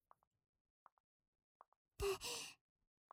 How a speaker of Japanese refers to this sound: 足音が聞こえる。あ、ご主人様だ。